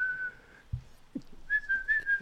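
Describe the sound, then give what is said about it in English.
A person whistles to call a dog named Spike: two steady, fairly high notes separated by a short pause, the second slightly wavering, with a soft low thump in between and no talking. “She can hear the whistle.”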